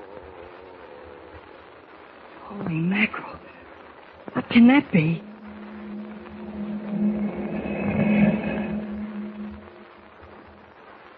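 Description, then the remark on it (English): A strange, eerie moan in the darkness of Jimmy's cabin, in a Superman adventure serial, rises and falls in two wavering swoops, then settles into a long, low sustained drone while a startled voice speaks over it. “What is the meaning of the strange moan heard in the darkness of Jimmy's cabin?”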